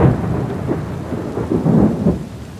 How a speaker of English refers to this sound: Sheets of rain assault the ground like bullets on the hard-packed earth.